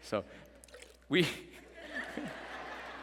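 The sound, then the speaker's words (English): Water is dumped out of a cup with a couple of quick splashes, then a steady, moderately loud trickle and splatter, with a voice briefly audible in the background. “We begin to pour, and sometimes life doesn't cooperate, so you just dump it all out, amen.”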